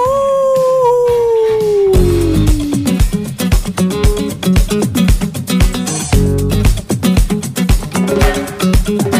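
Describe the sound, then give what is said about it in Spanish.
A loud, drawn-out werewolf howl slides steadily downward in pitch for about two seconds, then gives way to a driving, beat-heavy music track that carries on to the end. “El hombre lobo. ¡Aú!”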